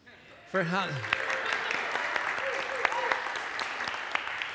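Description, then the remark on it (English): After a brief hush, a crowd at a church vision lunch bursts into applause, a dense, steady crackle of many hands clapping. A voice briefly rings out over the start, and the clapping keeps going to the end. “We were just applauding for you.”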